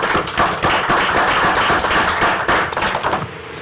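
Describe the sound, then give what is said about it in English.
A group of people give a round of applause to those who served the state of Wisconsin, dense overlapping claps forming a steady wash of sound that holds for a few seconds before thinning out at the end. “So I want to give you guys a round of applause.”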